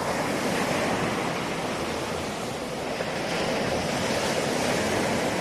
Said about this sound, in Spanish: Oír ese sonido del mar